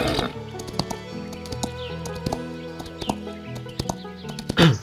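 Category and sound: animal, horse snorting and whinnying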